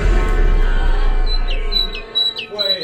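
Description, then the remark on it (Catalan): A small bird chirps several times in quick succession, with short, high, thin calls over a rushing background noise that fades partway through. “no és una carraca, no, eh?”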